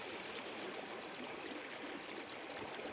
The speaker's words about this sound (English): For those of you who love the sound of running water, I am going to place my microphones by the Glenariff stream here in the high country.